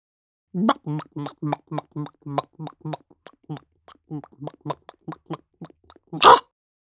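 A hen laying an egg clucks in a rapid run of short, throaty, pitched bursts that trail off unevenly, then a single loud, harsh squawk or pop ends the sequence.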